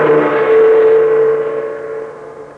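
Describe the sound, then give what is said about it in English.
A car engine hums and whines loudly with a steady droning pitch, then gradually winds down and quiets as the car pulls up in Chungking, China. No voices are heard. “Terry Lee and Pat Ryan arrived in a car they had taken from Mr.”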